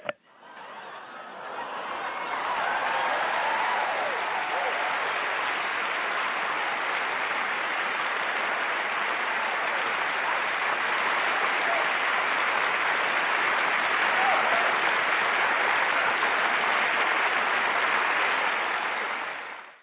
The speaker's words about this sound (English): And that is my piece. Thank you. Everybody, let's clap it up.